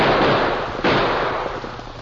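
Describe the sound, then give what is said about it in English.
Two loud gunshots ring out, the first already booming as the sound begins and a second sharp crack following a moment later, each trailing off into a rough, rumbling decay with no voices. “That torn stallion reared right up in front of me and spoiled my aim.”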